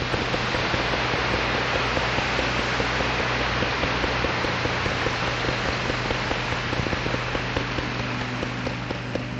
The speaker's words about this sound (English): If you would like to express your appreciation to them, not only for what they have done, but for how they look, I will give you permission for once during this meeting to clap your hands.